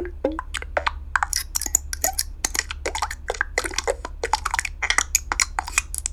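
A rapid, uneven string of short, bright button sounds created as would-be buttons for a Yahoo widget, part of a set of 38, dozens in quick succession with crisp high-pitched edges, over a faint steady low hum. No one speaks.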